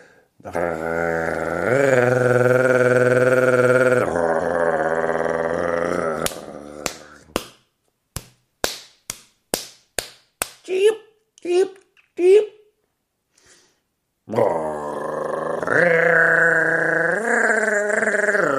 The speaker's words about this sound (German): Und wir hatten es bei der Waldohreule, die auch so ein Flügelklappen hat. Und das macht auch der Ziegenmelker. Und das ist mit seinen schmalen Flügeln für einen relativ kleinen Vogel erstaunlich laut. Ich habe das mal gehört, das klingt dann so.